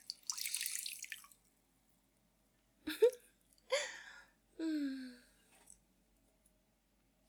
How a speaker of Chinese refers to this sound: 你猜我想做什么？我现在把纸巾浸到水里边，一层一层的往你脸上盖上去，让你喘不了气，好不好？